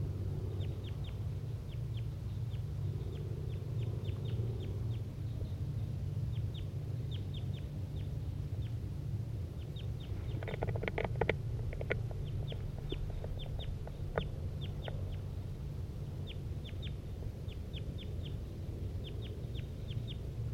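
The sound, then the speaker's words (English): Three chickens cluck in a steady run of short, sharp calls over a constant low hum, with a denser burst of overlapping clucks partway through. No one speaks. “All three birds engaged.”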